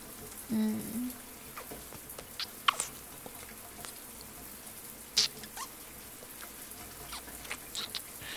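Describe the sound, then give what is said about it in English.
A shower runs with a soft, steady hiss of falling water, broken by scattered patters and a few sharper drips and clicks; a short low hum sounds near the start. “Even over the sound of the shower, I can hear your little moans.”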